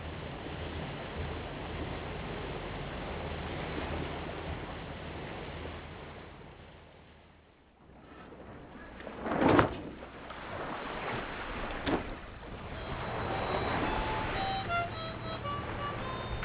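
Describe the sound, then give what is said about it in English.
A sailing ship under sail on its third day at sea, with no land in sight: a steady rush of wind and water that briefly eases, a couple of sharp knocks or creaks, then faint high chirps near the end. No voices. “It is our third day at sea, and we are under sail.”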